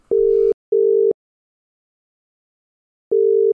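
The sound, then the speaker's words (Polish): A brief burst of clicky telephone dialing noise as a number is dialed to call Richard Feynman, then a steady mid-pitched line tone beeping three times: two quick beeps, a pause, then a third. Loud and clean, with no voices. “Wybieram numer, a ty mi tutaj nie blubraj, bo się pan Richard wystraszy.”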